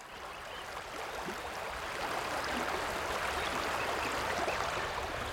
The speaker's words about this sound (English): I just love the sound of running water.